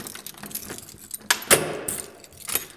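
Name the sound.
key turning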